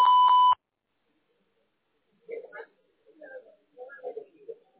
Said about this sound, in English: Thanks for calling. To connect and talk, just say your name and what you're calling about after the beep.